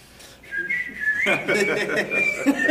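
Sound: person whistling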